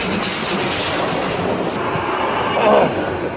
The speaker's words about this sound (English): Out of the way. Didn't you see the sign? Beware of trains. I didn't see it coming.